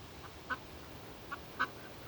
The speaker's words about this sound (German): Oh, guck dir mal die Enten an. Das sind Hunderte. Ich habe noch nie so viele Enten gesehen. Wahnsinn.